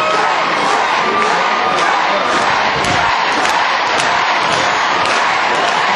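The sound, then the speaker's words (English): A large crowd at a live band show in a bar venue with a stage chants and cheers for more, a dense, steady roar of many voices that stays loud for the full six seconds, with occasional sharper whoops and shouts rising above it. “And as you hear the crowd chanting for more.”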